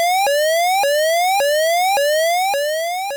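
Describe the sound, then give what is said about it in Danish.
A car's speeding warning alarm, required under the EU's GSR rules when a car exceeds the speed limit, sounds alone: a loud, bright electronic tone that sweeps upward and snaps back about six times in a quick, steady rhythm, easing slightly in volume at the end. “Klare, tydelige biplyde skal få bilisten til at lette på speederen, så de holder sig på bilistdydens smalle sti.”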